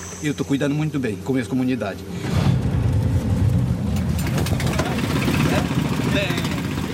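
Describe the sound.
A voice is heard briefly, then a wooden boat's motor kicks in and runs steadily, a loud, close, rumbling drone that carries on to the end.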